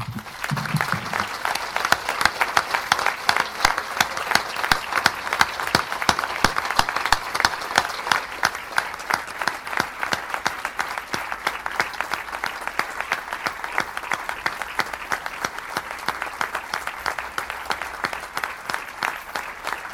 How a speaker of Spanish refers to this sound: Son los aplausos que el pueblo le vuelve a dedicar a Antoine, porque ya ocurrió ayer, como decíamos, en el en responso que se celebró en la iglesia de Santa María, a la entrada del féretro y a la salida también del féretro, camino del cementerio.